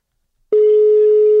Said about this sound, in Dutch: We gaan hem gewoon even via WhatsApp bellen. Komt-ie.